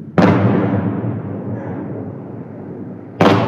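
Two loud explosions from Shahed explosive drones shot down by air defense above Kyiv before daylight: a sharp boom that rolls out into a long, fading rumble, then a second blast right at the end. No voices.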